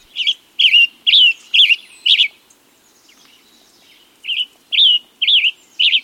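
A tanager sings a run of five short, hoarse, rising-and-falling phrases, pauses, then sings four more, each clear and fairly high-pitched with no other sounds around it.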